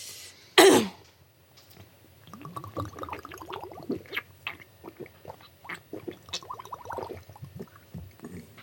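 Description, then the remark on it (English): A sharp knock is followed by a run of rhythmic gulping swallows as a whole strong, oregano-flavoured drink is chugged, mixed with strained throat-clearing and coughing. “Do you chug the whole thing? Yeah, chug the whole thing.”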